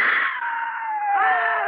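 human body sound, person screaming

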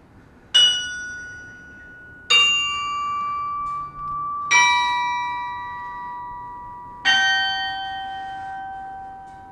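signal or alarm, large tower bells ringing

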